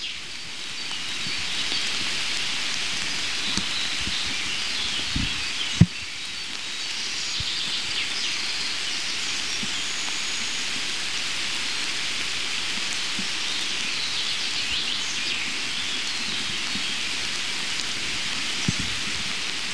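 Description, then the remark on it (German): A heavy downpour hisses steadily for the whole stretch, a dense wash of rain with occasional louder drips and taps, and no voices. “Dass, falls es noch nicht ordentlich geregnet hat in euren Regionen, ihr euch zumindest für mich freuen dürft. Wasser!”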